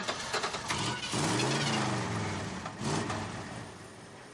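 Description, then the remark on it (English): A car engine cranks and turns over, sputtering into a rough rumble twice against steady background noise, moderately loud, with no one speaking. “In the car. I'll get it going.”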